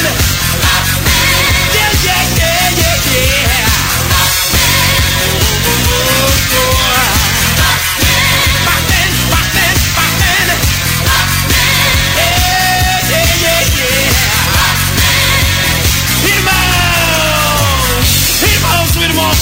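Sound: crowd shouting loudly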